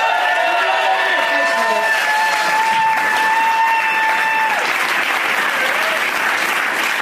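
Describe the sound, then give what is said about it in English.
Loud, steady applause from an audience fills all seven seconds, with a sustained whistle or cheer ringing over the clapping through the first half. “One more time for Brad Elwood.”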